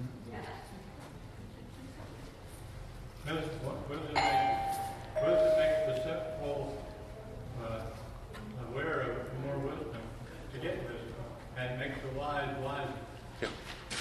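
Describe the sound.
A bell is rung to end a class, with two clear, ringing tones that linger briefly, over a background of room noise and people talking.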